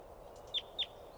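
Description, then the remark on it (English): A wild adult female bird, coming down, gives two quick, high-pitched chirps a fraction of a second apart, sharp but fairly soft, over a faint steady background hiss with no talking. “That was a wild one chittering and coming down.”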